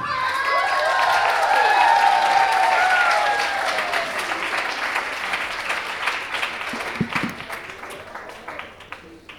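A crowd claps and cheers in a dense, sustained burst for a group of five performers from the Praxisschule, starting number 3, coming onto the stage. Whoops and shouts ride over the applause before it gradually thins out into scattered claps.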